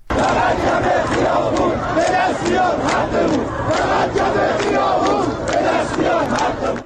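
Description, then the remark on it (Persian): A crowd of hundreds protesting in front of the Chaharmahal and Bakhtiari governorate in Shahrekord, Iran, over cut-off tap water shouts and chants together, including "Death to Raisi", in loud, rhythmic bursts, many voices merging into a continuous roar that rises and falls in repeated waves. “صدای اعتراض شماری از مردم شهر کرد.”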